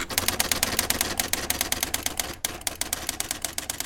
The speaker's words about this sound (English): So this is an electronic typewriter that I bought for about $20, I suppose, and that's from the mid-1980s.